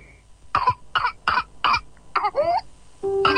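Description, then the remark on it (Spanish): A rapid run of harsh coughs, about six in quick succession, followed by a high-pitched gasping whoop as breath is drawn in, then another strained cough, from a whooping cough fit. “La tos convulsa es una enfermedad contagiosa que afecta las vías respiratorias. Se caracteriza por una tos intensa que puede durar semanas y, en casos graves, causar neumonía, convulsiones o incluso la muerte.”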